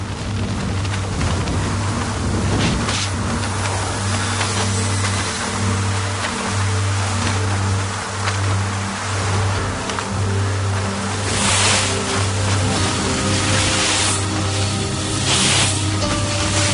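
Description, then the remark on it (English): Loud, continuous wind and blasting sand buffet a car moving on a desert road toward Tripoli in 45-degree heat, a rushing roar with a steady low engine drone beneath and a few sharper gusts swelling near the end. No one speaks. “The wind buffets you, the sand blasts you.”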